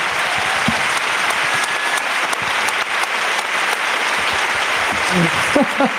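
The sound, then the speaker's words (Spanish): Steady, dense audience applause fills the whole six seconds, a loud continuous patter of many hands clapping, with a few faint voices and whoops surfacing near the end. “Aplauso, por favor, para la ruina de Pepe Colubi.”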